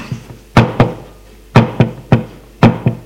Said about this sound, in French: Je frappe à la porte de la chambre de Pascal.